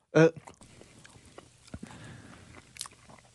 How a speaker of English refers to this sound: I don't think you chewed that nearly enough for when you swallowed it. Like, there's a big piece of hot dog that went down there unchewed.